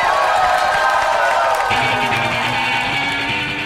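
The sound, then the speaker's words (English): An audience at a live comedy album recording breaks into sustained applause and cheering for Vancouver comedian Sophie Buttle, a dense steady wash of clapping with whoops. Partway through, a low tonal hum or music rises beneath the clapping, which stays loud to the end. “Please give her your warmest round of applause for Vancouver's own Sophie Buttle, everybody!”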